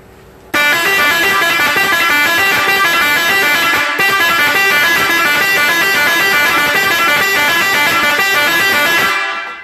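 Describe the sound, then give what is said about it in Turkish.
A loud Seger musical air horn, the 'Dali dali' Arabic horn, blares a rapid melodic tune for about nine seconds, its bright stepping notes repeating in a lively Middle Eastern-style pattern, with only a brief break midway. “Dali dali kornamız, Arap kornası.”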